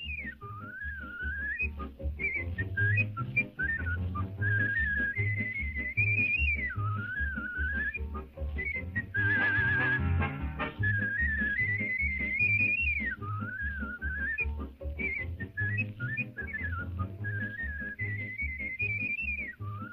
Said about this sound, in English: I'm not going to play the whole thing, but here's what he sounded like when he whistled. So this is, it's pretty amazing, really, so.